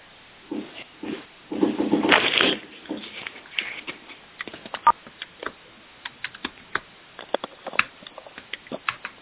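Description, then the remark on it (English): Sharp clacking of computer keyboard keys in irregular bursts, with a denser flurry of clatter early on, then scattered individual keystrokes. The sound is thin and call-like, with no voices. “Are you able to hear me when I'm typing? It sounds like a shotgun going off.”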